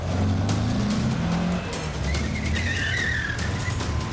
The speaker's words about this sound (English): I was in a twin turbo sports car, so I put my foot down and I start driving like a maniac.